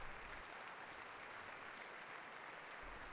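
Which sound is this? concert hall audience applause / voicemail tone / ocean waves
concert hall audience applause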